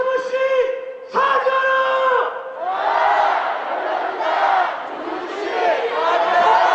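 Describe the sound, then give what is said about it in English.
A crowd of 30,000, mostly young people in their 20s and 30s, chants in unison at a street protest in Seoul, South Korea, against the U.S. troop presence. A sustained loud roar of many voices rises and falls, with a few longer drawn-out shouted phrases at the start. “South Korea's generation gap is most visible on the streets of Seoul, where nearly every day, it seems, another protest erupts.”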